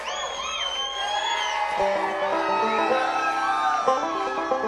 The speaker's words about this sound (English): Y'all are quite fine for screaming and clapping at us. Thank you.